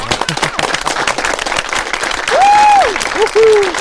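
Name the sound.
applause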